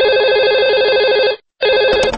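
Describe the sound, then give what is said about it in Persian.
A telephone rings loudly at the start of a recorded phone call, a warbling electronic trill that sounds in two bursts separated by a brief silence, with a faint click near the end. “ما اون تلفن خوشبختانه تونستیم ضبط کنیم، بچه‌ها کمک کردن، چون خودش اصلا ماجرایی شد.”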